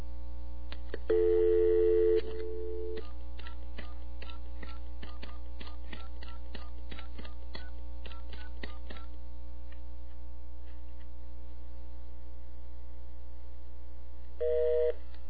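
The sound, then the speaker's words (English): A steady telephone dial tone sounds for about two seconds, then a series of faint clicks and blips follow over a constant low electrical hum, with the dial tone briefly returning at the end. No one speaks. “I just cut the dial tone out with my voice.”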